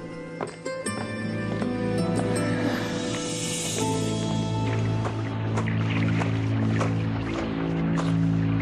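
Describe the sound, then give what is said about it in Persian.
A small boat moves across water, with a steady, fairly loud droning hum and scattered knocks and splashes throughout. No one speaks. “زیاد سوال نکن، از قایق پیاده شو.”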